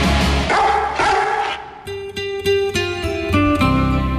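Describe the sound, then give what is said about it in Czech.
A dog barks in a quick run of sharp, repeated yaps. The later barks turn more tonal and evenly spaced over a steady, sustained backdrop, with no talking. “Wow, wow, mrňau.”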